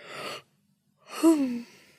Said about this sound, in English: All this talk of yawning is making me have to...